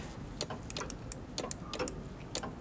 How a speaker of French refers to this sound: Mon ami, peux-tu un instant écouter cette pendule que je viens de réparer ? Oui. Elle bat régulièrement. Attends. Oui. Son cœur est intact.